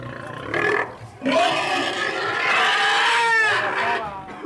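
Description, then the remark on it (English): A pig screams loudly: a short shrill squeal, a brief pause, then a long, sustained shriek whose raspy pitch wavers and rises before trailing off, as four men push the pig through a doorway on Alameda Street while a man pulls on its rope and it digs its hooves into the floor. “The pig digs her hooves into the floor and begins screaming.”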